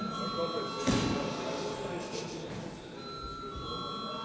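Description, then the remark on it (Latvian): A bell rings continuously for the whole stretch in the chamber of the Latvian parliament, calling members to vote on a bill in its second and final reading, a steady electric tone sounding over faint murmur and shuffling. “Lūdzu zvanu.”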